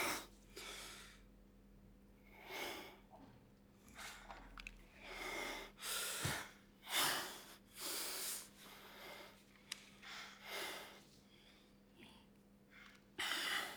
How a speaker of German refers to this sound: Hör mal. Man hört sie atmen, sich bewegen.